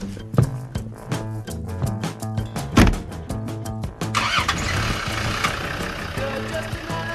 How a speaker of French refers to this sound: À terme, le zoo de Thoiry entend faire taire les grondements des moteurs des voitures, des visiteurs, pour laisser plus de place à ceux des grands fauves.